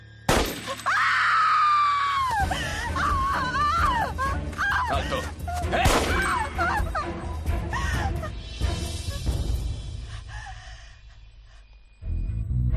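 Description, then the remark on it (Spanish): A woman lets out a loud, high-pitched scream of horror after a young man is shot in the head, followed by several seconds of frantic wavering cries and clattering, crashing noise. “José Manuel, ella la oímos gritar de horror.”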